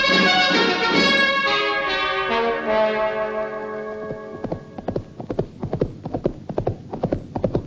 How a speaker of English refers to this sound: did you hear a horse go by?